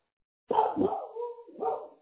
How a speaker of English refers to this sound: And the mailman must be there, huh? Hear the dogs in the background.